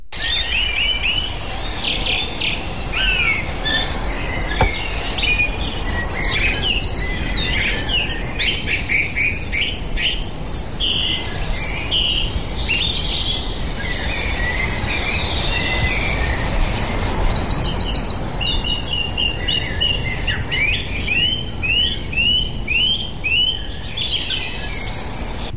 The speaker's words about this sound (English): Do you want to get more of that bird song before it begins to ease off?